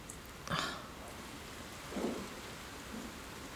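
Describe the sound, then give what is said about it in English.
Steady rain hisses across the whole clip, with a couple of brief louder splashes or rumbles rising out of the downpour. No one speaks. “Yeah, I like seeing how pathetic you look in the rain, okay?”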